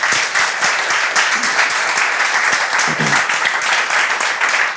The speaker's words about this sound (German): Und wenn heute irgendwas nicht dokumentiertes vorgefunden wird, bitte eine Runde Applaus.